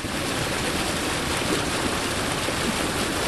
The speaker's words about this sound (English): As the automatic dredge removes the muck and the filtered water returns, the lake is expected to revert back to its original state of health.